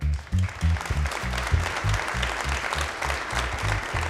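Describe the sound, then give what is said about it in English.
An audience claps steadily for several seconds after rock lyrics are read aloud, a dense wash of applause at a constant level, with a rhythmic low thumping running underneath it. “I was going to read off some rock lyrics and you guys would applaud like it's works of art.”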